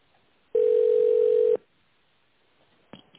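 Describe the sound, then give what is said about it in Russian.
A single steady telephone beep tone, about one second long and fairly loud, sounds alone against quiet line hiss, followed later by a brief click. It is the signal after the automated phone menu of the company Tolpro Ural, after which callers dial an employee's extension. “Если вы знаете внутренний номер сотрудника, наберите его после звукового сигнала.”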